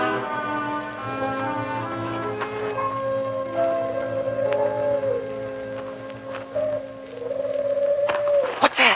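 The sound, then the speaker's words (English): Howling wind moans in long, wavering tones that rise and slide steadily, with a few faint clicks near the end and no voices. “The wind?”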